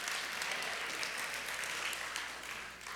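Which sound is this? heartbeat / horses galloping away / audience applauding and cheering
audience applauding and cheering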